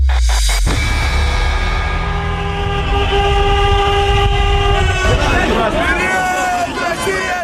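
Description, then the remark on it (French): Many car horns blare at once in long, overlapping sustained honks, loud, over a steady hubbub of crowd noise and voices, as people celebrate in the streets of Saint Petersburg, Russia, on a Tuesday evening after Russia's football win over Egypt. “Période Russia en avant, la Russie, la joie, les klaxons de Saint-Pétersbourg.”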